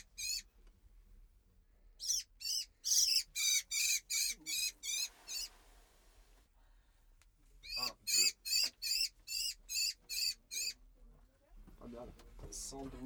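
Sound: blackbird squawking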